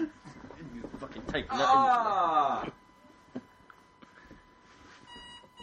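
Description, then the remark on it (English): An electronic alarm, set as a reminder to take pills, beeps steadily in the background, faint and thin beneath people talking and a burst of laughter, its high tone sharpening toward the end. “Why is my alarm going?”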